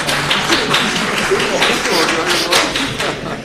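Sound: audience applause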